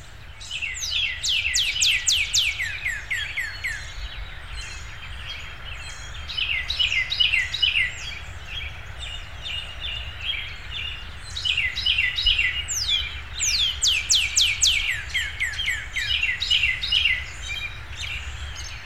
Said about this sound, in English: In the following recording, a redbird swaps off singing with a Carolina wren and other birds in my yard.